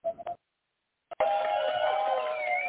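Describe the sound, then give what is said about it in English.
A studio audience in a small studio in Virginia Beach bursts into loud, sustained applause and cheering that continues without a break, following a couple of short tonal beeps and a moment of silence. “I love that very exuberant applause.”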